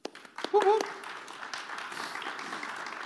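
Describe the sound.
A round of applause builds from a few sharp early claps into a steady, dense wash of clapping, with a brief voiced whoop near the start, continuing at moderate loudness throughout.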